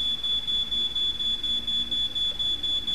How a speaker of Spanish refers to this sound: Central, no hay ningún incendio. Se activó la alarma por un asado. Es en el séptimo de una señorita.